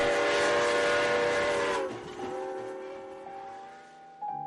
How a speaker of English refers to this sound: Our Santa trains are just phenomenal. As of just a few minutes ago, we've got 7,268 riders. We actually are running 9 cars on this train. We've actually got seating for 300 in coach and 70 in first class.